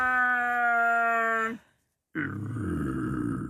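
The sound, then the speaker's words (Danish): A voice imitates the roar of a big, fully hairy creature: a loud, sustained, moaning growl, a brief pause, then a rougher, raspier roar that continues to the end. No talking. “Chewbacca, det er den store hund. Den der helt behårede en, der siger...”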